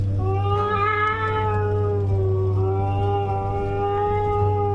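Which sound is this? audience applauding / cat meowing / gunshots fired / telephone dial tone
cat meowing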